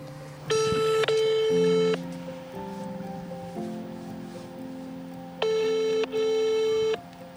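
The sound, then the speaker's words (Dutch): A phone call to the French coast guard, made from a mobile phone, rings out unanswered: two bursts of bright, buzzy ringback tone, each with a short gap in the middle. A lower, steady hum fills the pauses between them. Nobody speaks. “Nou, de Franse kustwacht neemt niet meer op. We gaan het nu met mijn telefoon proberen.”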